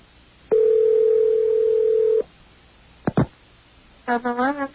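A steady telephone dial tone hums for about a second and a half, followed by two short clicks and then a voice beginning to speak, as WUSB Radio in Stony Brook, New York, calls Bismarck, North Dakota.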